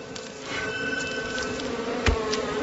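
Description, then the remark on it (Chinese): A steady, droning buzz of wild bees at moderate loudness, with one brief thump near the end and no voices, as smoke is lit to drive the bees from their tree hollow for honey. “野蜂并不怕人”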